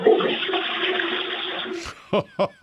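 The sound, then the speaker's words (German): A household toilet in Carinthia, Austria, flushes loudly, a steady rushing of water for nearly two seconds before it cuts off, followed by a few short clunks or voice bursts. “Ihr habt ja voll die laute Klospülung.”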